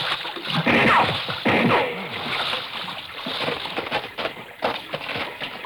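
Heavy splashing and sloshing as someone wades through shallow water, carrying another person out of the water, loud, with irregular surges of churned water and a few faint voice-like sounds mixed in.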